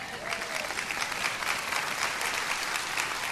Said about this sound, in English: Amen? You should be clapping at that.